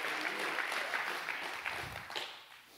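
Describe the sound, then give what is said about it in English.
A crowd claps to the Lord at a Christian service, a dense wash of many hands that stays loud and even before tapering off near the end, with no voices over it. “Go ahead and clap those hands to the Lord one more time.”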